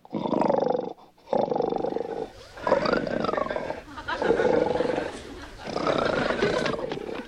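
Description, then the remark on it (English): A lion-like animal roars loudly, letting out several long, rumbling roars in quick succession with brief pauses between them. “So I admit he may have a trace of lion blood in him.”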